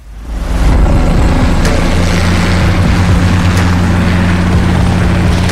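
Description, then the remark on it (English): A helicopter's rotors roar up quickly to a loud, steady drone with a deep throbbing hum and rushing wash of noise, no voices over it; the helicopter is to fly passengers to Catalina Island. “Did you get a helicopter?”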